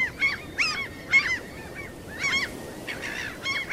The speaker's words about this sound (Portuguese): Vão ter que fazer como as gaivotas, que se comunicam com sons agudos que se destacam sobre a paisagem grave.